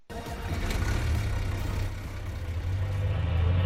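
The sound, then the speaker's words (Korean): The engine of Seoul city bus No. 6623, running from the Yangcheon garage to Yeouido with a woman driver, runs steadily with a deep, continuous low rumble and a faint higher hum over it, loud, with no one talking. “서울 양천 차고지를 출발해 여의도까지 향하는 6623번 버스는 오늘도 활기찹니다.”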